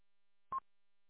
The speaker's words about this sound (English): Yep, still sitting here listening, trying to hang up on a phone call. The phone's plugged in, buzzing on my bench.